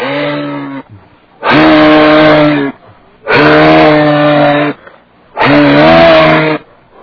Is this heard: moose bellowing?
yes